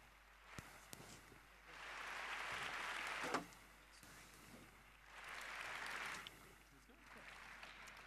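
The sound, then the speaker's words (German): Audience applause welcoming the next speakers at a talk rises in two broad swells of dense clapping, fading briefly between them and trailing off at the end, with a couple of sharp isolated claps early on. “Applaus bitte.”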